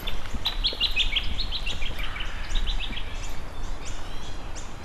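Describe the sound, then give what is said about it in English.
An eastern yellow robin calls with a quick series of high, piping notes, repeated in short bursts over steady outdoor background noise, clear. “That was the eastern yellow robin.”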